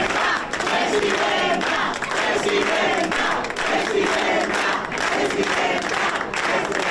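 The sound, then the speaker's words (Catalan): A crowd gives a sustained ovation for Prohens after her parliamentary vote, in the parliament corridors, dense clapping mixed with loud cheers and shouting voices, holding steady and energetic without a break for the whole stretch. “Emocionada, Proens ha seguit el recorregut cap a la seu dels populars, on continuava l'ovació.”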